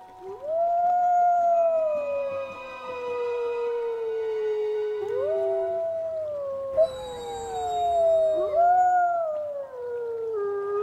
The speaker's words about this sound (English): howl with the wolves.